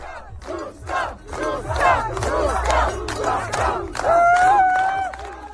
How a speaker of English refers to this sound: At the finish line, she was welcomed by a cheering crowd, including Czech President Petr Pavel, who personally congratulated her.